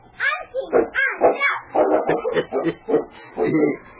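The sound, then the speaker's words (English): King, a big lead sled dog hitched to a sled with a child riding on it, barks and yips excitedly in a rapid, uneven series of short, fairly loud barks that run through the whole few seconds. “The following morning, Sally squealed with delight as she sat on the sled to which Sergeant Preston had hitched his big lead dog, King. The big dog seemed to enjoy the fun as much as the child and started off carefully at her command.”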